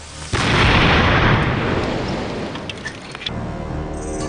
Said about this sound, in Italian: Abbiamo scelto un terriccio simile a quello che costituiva le strade del Giappone antico e ora possiamo testare la potenza reale di queste bombe. La miccia è un po' di polvere da sparo innescata a distanza da un nascondiglio.